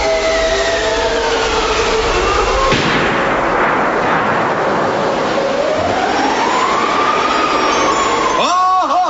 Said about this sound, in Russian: Господи, волки. Вон, вон. Спины. Только два. Держись покрепче. И лошадей придерживай. Я сейчас выстрелю.